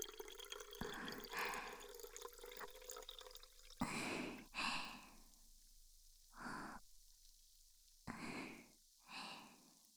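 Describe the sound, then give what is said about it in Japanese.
Liquid pours into a Pocari Sweat plastic bottle: a sustained, splashing trickle with a faint tone gives way to several separate gurgling glugs, fairly loud, with no voices. “ではでは、ポカリのペットボトルに注ぎます。”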